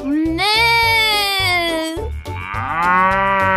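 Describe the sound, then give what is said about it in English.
Two loud, drawn-out cow moos, the first sliding downward over about two seconds and the second shorter and higher, over a steady thumping beat. “What beautiful animals! I like the cow.”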